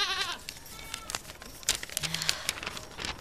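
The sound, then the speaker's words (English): A goat passing a hiker on a steep, high-elevation slope lets out a short, quavering bleat right at the start, followed by scattered crunching and rustling noises with no talking. “You just got to go past me. Go on, goat.”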